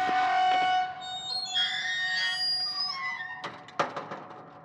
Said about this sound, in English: He reached out a hand, the gates creaking open as the rusty hinges sent their warning.